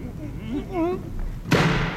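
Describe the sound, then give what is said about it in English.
A voice speaks briefly, then a single loud, heavy bang rings out as a tremendous-sized brass door knocker carved with a lion's head strikes a door on a wet night, its resonance lingering to the end. “Oh, a tremendous-sized brass knocker on this door.”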